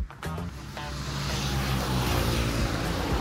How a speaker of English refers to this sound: It's before 6 a.m., and you can hear the traffic heading to town is busy with motorcycles. I think the ratio is somewhere between 4 to 1 or 3 to 1 of bikes compared to other vehicles. Some bikes have a passenger.